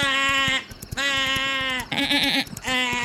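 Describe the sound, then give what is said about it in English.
A person does a loud goat scream impression: four strained, wavering bleats in quick succession, the third one shakier and more warbling, with no other talking. “actually just sounded like a goat just now.”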